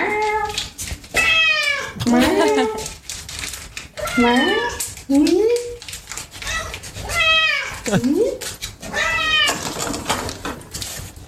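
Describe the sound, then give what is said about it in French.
A cat meows insistently, again and again, with loud, drawn-out rising and falling cries coming every second or so, with barely a pause between calls. “Tiens, tu vois, t'es pas la seule à parler non. Le chat.”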